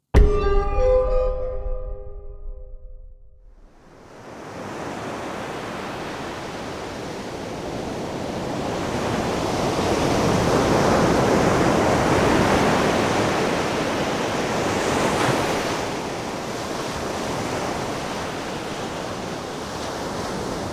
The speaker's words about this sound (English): stood solemnly at the edge of the churning ocean